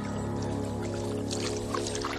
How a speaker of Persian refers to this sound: خوشنویس با دست‌ها و صورتی زخمی و خونین کنار آبراهی گوشه حیاط نشسته. خون را با آب پاک کنم یا آب را با خون؟ دستش را در آب فرو می‌برد و می‌شوید.